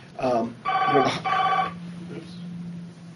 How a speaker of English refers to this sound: Oops. How do you hang up the phone? I'll just let it ring. Okay, sorry about that. So we were targeting. Can we let the phone ring?